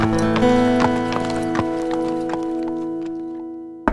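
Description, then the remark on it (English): Horse hooves clip-clop in a steady, crisp rhythm while a horse lets out a drawn-out whinny over the top of the footsteps. “Why don't you ride over there and tell her what you've decided?”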